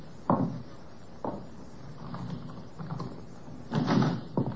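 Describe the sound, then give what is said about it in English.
A door is opened: a sharp thud, another a second later, then softer shuffling and a louder rattling clunk near the end. No one speaks. “Step back. I'll open it.”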